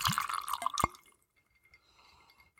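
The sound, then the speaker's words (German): Liquor glugs and splashes into a glass in a short pour lasting about a second, with bubbly rising tones, then a quiet tail with faint clinks. “Dann gieß mal ein und schauen.”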